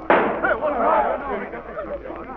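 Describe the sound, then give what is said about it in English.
A single loud gunshot, fired by Sheriff Brazos at a man, cracks out with a sharp, sudden attack, then its roar fades gradually over about two seconds, leaving a low rumbling tail. “I'll begin with Sheriff Brazos, the man who just shot me.”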